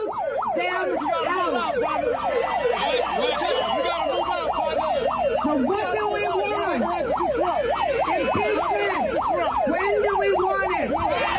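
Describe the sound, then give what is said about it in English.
A megaphone, broken after its cord was pulled out, is stuck on its siren: a loud electronic wail, pitch sweeping rapidly up and down in a fast repeating yelp that never stops, with a second lower tone wavering underneath and crowd noise faint behind. “It's just broken on the siren right now.”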